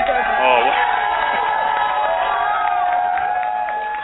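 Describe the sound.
A crowd cheering and applause sound effect, a dense roar of voices with scattered whoops and clapping that stays loud throughout and eases slightly toward the end.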